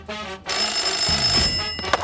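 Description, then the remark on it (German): A telephone at the Schnackenburg registry office (Standesamt) rings with a bright, rapid metallic trill, loud and continuous for most of the moment after a brief quieter lead-in, with no talking over it. “Standesamt Schnackenburg, Baxen am Apparat.”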